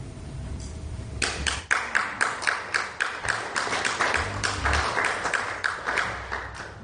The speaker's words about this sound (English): And so for the second week in a row, she gets the applause.